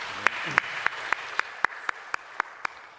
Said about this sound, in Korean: 주님께 영광의 박수 올려드리겠습니다.